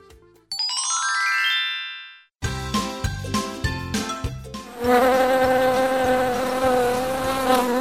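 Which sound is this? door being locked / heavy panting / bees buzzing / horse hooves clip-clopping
bees buzzing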